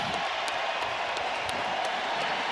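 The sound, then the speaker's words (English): The 49ers stadium crowd gives a standing ovation to a player who has announced his retirement from football, in presumably his final game: a steady, dense roar of cheering and applause with scattered sharper claps, holding at an even level throughout. “Getting a standing ovation here.”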